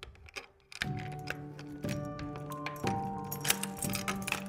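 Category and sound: household object, key turning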